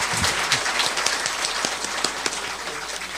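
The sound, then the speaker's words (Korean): An audience applauds at the end of a lecture, many hands clapping in a dense, even wash of sound that holds at a moderate level throughout with no voices. “예, 우선 강연 잘 들으셨다는 의미로 박수 한번 크게 하고 갈까요?”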